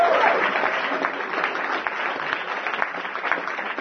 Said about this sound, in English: So the Brecht Forum this year, we are celebrating our 36th year anniversary. And thank you. There's going to be a lot of clapping tonight. No more clapping.